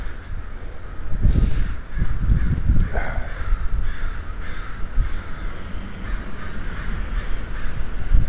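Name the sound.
crows cawing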